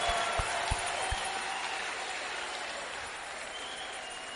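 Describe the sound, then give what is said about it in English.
An audience claps their hands together to the glory of God, a dense, continuous wash of applause with a few sharper individual claps standing out at the start, steady and fairly loud throughout. “Slap your hands together to the glory of God.”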